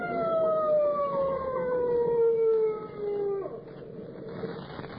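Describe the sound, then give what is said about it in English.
The siren of an approaching police motorcycle wails loudly and winds down in pitch over a few seconds, with a low rumbling engine noise underneath that carries on after the siren fades. “Need somebody coming. Motorcycle cop.”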